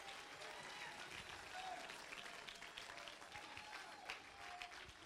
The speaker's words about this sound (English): Clap your hands and lift your voice.